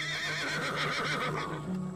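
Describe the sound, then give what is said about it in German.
A horse whinnies in one long, wavering neigh that trembles up and down in pitch, fairly loud and lasting about two seconds, with no talking. “Pferde mit Flügeln.”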